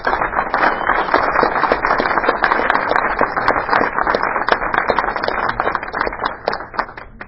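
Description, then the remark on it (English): An audience gives the evening's hosts a special round of applause, a dense crackle of many hands clapping at an even loudness for about seven seconds before tapering slightly at the end. No one speaks. “They've obviously paid for the bar, so I'd like to give them a special round of applause.”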